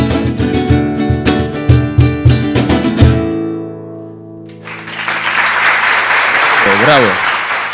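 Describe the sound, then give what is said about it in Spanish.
Rhythmic music plays and fades out, then a crowd of about 400 street onlookers watching through the window of a radio studio bursts into steady, dense live applause, not canned, that fills the last few seconds, with a brief cheer rising near the end. “Aplausos es de la gente de la calle.”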